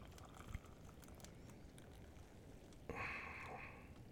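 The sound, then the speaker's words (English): After a few seconds of quiet background rumble, liquid begins pouring into a cup, a steady hissing, splashing stream that continues to the end. “Here, let me pour this out for you.”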